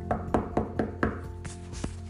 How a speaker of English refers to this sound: As he was unpacking all of his things, he heard a knock at the door.